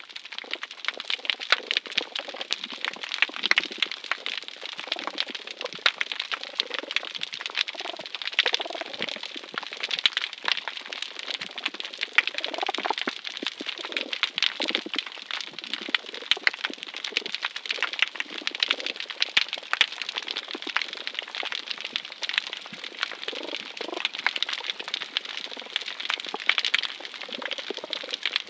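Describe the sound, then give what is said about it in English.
Mating domino damselfish males, turned light gray, sing underwater after swimming toward the surface and turning back toward the seafloor: short, low pulsed chirps that rise and fade over a constant dense crackle of clicks, steady and moderately loud throughout. “They swim toward the surface, make a turn back toward the seafloor, and sing.”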